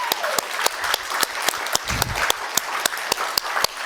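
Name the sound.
applause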